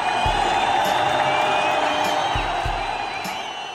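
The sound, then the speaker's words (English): A large crowd roars and cheers in celebration as released Israeli hostages and Palestinian prisoners return home on a Monday morning, a dense, steady wash of voices with high whoops and whistles riding on top, and occasional low thumps underneath. “Massive crowds gathered to celebrate as 20 living Israeli and almost 2,000 Palestinian prisoners returned home Monday morning.”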